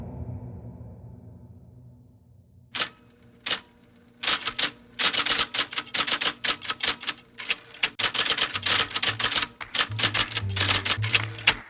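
Typewriter keys clacking: after a quiet low hum, two isolated strikes, then a brisk, uneven burst of rapid sharp clicks that continues to the end, with no talking.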